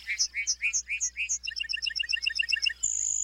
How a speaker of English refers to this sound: During the summer breeding season, North America's Great Plains come alive with birdsong. Among the most memorable is the lark bunting, whose serenade is complete with costume and choreography.